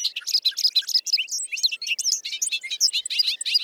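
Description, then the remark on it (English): A bobolink sings a rapid, bubbling stream of high, tinkling notes that tumble along without pause, clear against an otherwise quiet background. “Also, hayfields are now being mowed earlier than they used to be, and the mowing coincides with the peak of bobolink nesting.”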